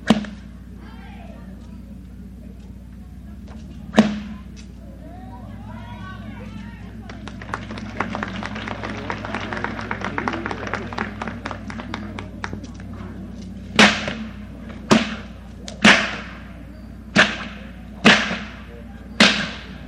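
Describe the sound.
Sharp whip cracks from a whip being swished and cracked ring out loud: a single snap, then a rapid flurry of lighter cracks, and finally a steady series of six evenly spaced cracks, with faint voices early on.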